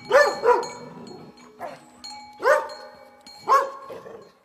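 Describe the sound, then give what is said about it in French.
A dog barks in short, loud bursts, five or so sharp barks spaced irregularly over a few seconds, with a faint steady tone humming in the background. “Maintenant, redonne-moi mon chien.”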